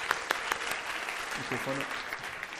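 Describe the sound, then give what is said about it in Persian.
A crowd applauds a guest speaker before a question-and-answer session, clapping steadily in a dense, continuous wash of applause, with a few sharper claps standing out early on and brief voices murmuring underneath partway through. “مرسی، تشویق کنین”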